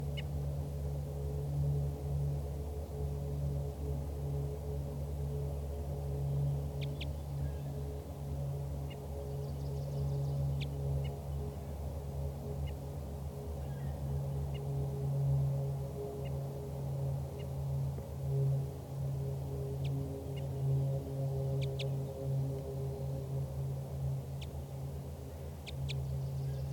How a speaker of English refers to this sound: So recording again, that wild bird is giving flight calls and toops.